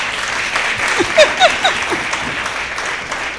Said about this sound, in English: Thank you. Give my assistant a clap.